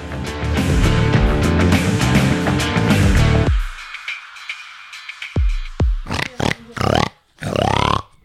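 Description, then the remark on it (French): Upbeat music plays briefly and cuts off, then a person imitates a pig with a series of short, raspy snorts and oinks in irregular bursts, the last ones longer and louder. “Tu fais vachement bien le cochon.”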